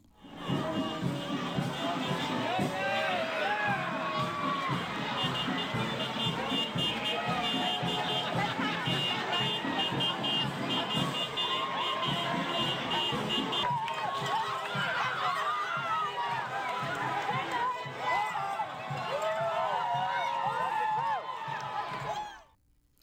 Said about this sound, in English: The skies may have been dark in Ottawa today, but nothing could dampen the mood of football fans in the nation's capital as hundreds of people lined the parade route to cheer for the Grey Cup champions, the Red Blacks. Here's how it sounded.